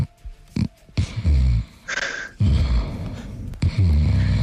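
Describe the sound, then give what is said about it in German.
A man snores loudly in his sleep, secretly recorded, with deep, rattling rumbles on each breath and a breathy hiss between them, repeating in a slow, steady rhythm. “dein Schnarchen heimlich aufgenommen hat und uns geschickt hat?”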